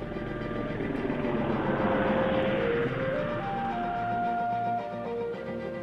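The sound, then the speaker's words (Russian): A steady, droning twin-engine aircraft hums continuously overhead, with tonal whines that slowly shift in pitch as it circles over a village, no voices present. “«Послушайте», — воскликнула мать, — «гул самолета!»”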